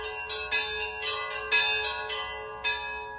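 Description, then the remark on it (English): Church bells ring in a steady, rhythmic pattern, with repeated strikes every half second or so and bright overlapping tones sustaining between them, no voices present. Several bell ringers play: one sets the tempo on the two smallest bells, and the others join at the same tempo with their own rhythms. “And the other bell ringers will join in basically taking the same tempo that I have, but with their own rhythms.”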